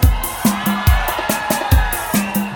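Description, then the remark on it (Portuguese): A crowd at a live music show shouts and cheers loudly in a continuous roaring wash after the singer calls for a loud shout and for the crowd from Osasco, with steady, rhythmic low thumps pulsing underneath. “Eu quero ouvir agora o grito bem forte.”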